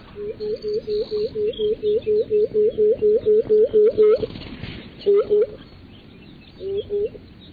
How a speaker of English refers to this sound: emitting this incredibly resonant hooting song as it's circling its territory, trying to chase off other males and attract a female. It's a really incredible thing to see this bird floating towards you, uttering this loud, resonant hooting sound.